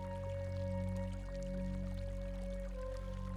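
A waterfall rushes in a steady, continuous wash, soft and even throughout, with a low sustained hum and faint held tones underneath and no voices.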